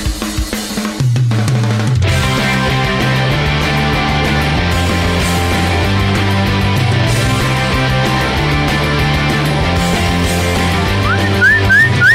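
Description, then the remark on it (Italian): On the Blando Radio Show on Radio Attività in Trieste, someone whistles steadily and loudly, mimicking the rush of wind, over a dense, full instrumental backing, with a few rising whistled slides near the end. No talking. “Senti che fischia già”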